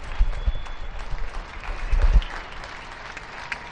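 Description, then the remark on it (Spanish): Many people across Spain applaud from their homes for healthcare workers, a dense, steady patter of clapping with a few louder bursts and no talking over it. “Hasta ahora España está citada, cada uno desde su domicilio, a aplaudir al personal sanitario que tanto está haciendo estos días por nosotros.”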